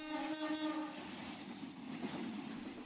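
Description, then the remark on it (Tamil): An electric suburban train on the Chennai Beach to Chengalpattu line in Chennai, India, sounds a loud, steady horn for about a second, then rumbles past with a continuous roar of wheels and carriages, with no voices. “சென்னையை பொறுத்தவரை சென்னை கடற்கரை முதல் செங்கல்பட்டு வரை இயக்கப்படும் மின்சார ரயில்கள்தான் போக்குவரத்தின் உயிர்நாடி.”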